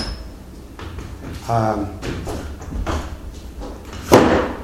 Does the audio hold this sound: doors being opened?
yes